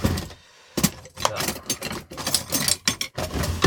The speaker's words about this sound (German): So. Den halben Wohnwagen auseinandergenommen. So klingt es zumindest. Aber ich habe tatsächlich nur Besteck aus der Schüssel geholt. Aus der Schublade, versteht sich.